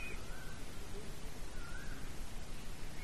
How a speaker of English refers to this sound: These birds singing there.